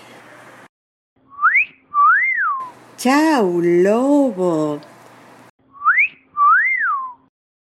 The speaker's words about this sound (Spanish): Cuando las chicas lo ven pasar, le chiflan.